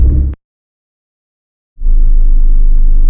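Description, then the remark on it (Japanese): A loud, steady low rumble of car interior noise while driving, cut off abruptly into about a second and a half of silence, then resuming just as heavy and continuous, with no voices. “なんで車運転中の録音を今までボツにしてきたかと言いますと”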